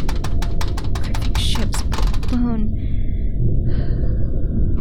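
Quick, shallow breaths in a rapid, uneven rhythm, like nervous panting, over a constant low rumble. The breathing stops partway through and only the droning background remains.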